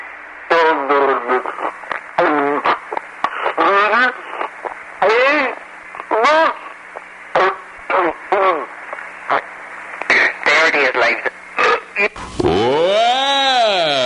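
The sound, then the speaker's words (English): Someone hums the national anthem while sipping Pepsi Cola, in short, wavering phrases that sound slightly gurgly, ending in a long swooping note, as an amateur talent act on WAKY Louisville radio, all over a steady broadcast-style background hum. “I am going to sip my Pepsi Cola while humming the national anthem at once.”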